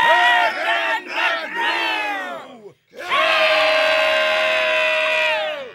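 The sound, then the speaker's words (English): A barbaric war cry from a charging horde of rats thundering out of Castle Florette and down the plateau steps into Southsward: many voices yell loudly with wavering, sliding pitches, break off briefly, then surge back into one long, sustained roar. “They thundered out down the plateau steps, their barbaric war cry ringing into Southsward.”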